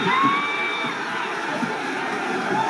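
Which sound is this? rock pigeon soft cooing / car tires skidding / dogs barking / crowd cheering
crowd cheering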